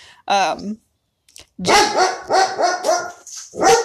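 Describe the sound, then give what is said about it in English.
Wolfo, the newer dog, barks repeatedly in an excited, vocal string of yips and woofs: one short bark, a pause, then a rapid run of about five harmonic barks in quick succession. “Oh, Wolfo is giving his 2 cents right now. Here's the newer dog.”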